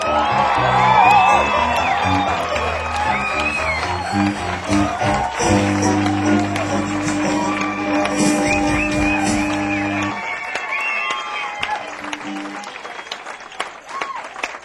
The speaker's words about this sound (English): Thanks a lot, thank you. I'm deeply moved by that highly spontaneous burst of applause. Thank you very, very much.